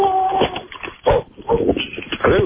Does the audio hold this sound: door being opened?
no